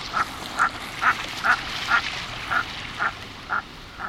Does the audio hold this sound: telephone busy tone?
no